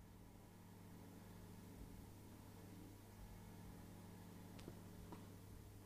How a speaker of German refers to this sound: hörst du hier, bohrt hier gerade jemand? Ja, da bohrt jemand.